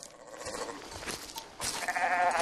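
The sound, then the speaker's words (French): Sheep bleat loudly, a wavering, nasal cry that carries on continuously and swells stronger partway through, as if several animals call over one another. “Oh, bah on a déjà des sons de moutons.”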